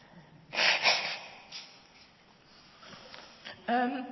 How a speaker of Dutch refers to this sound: Even mijn neus snuiten.